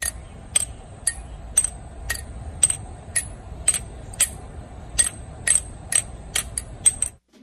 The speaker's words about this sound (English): Someone taking two water-filled... vacuum sealed tube. So that's water in a vacuum.